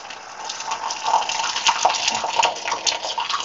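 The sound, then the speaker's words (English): Hot water, close to boiling, is poured steadily into a cup with a tea bag in it, a continuous splashing gurgle lasting a few seconds with a few brighter bubbling plinks, and no voices. “Just refresh the water so that it will be close enough to boiling. Doesn't have to be.”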